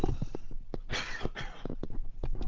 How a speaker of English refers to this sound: I'm going to have to take the headset off and just have a quick cough.